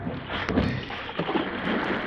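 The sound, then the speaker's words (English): Oars of a lifeboat dip and pull through water as men row away from a boat, with a steady rowing rhythm, each stroke a soft splash over a constant rush of water and wind, no voices. “Row for your lives. We've got to get away from this boat.”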